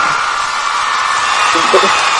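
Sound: applause and cheering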